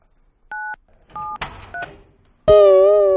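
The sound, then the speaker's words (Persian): Someone dialing a telephone to call a person: three short, evenly spaced keypad beeps with a brief rustle between them, then a loud, sustained buzzing tone starts abruptly and continues to the end. “الو به کی داری زنگ میزنی؟”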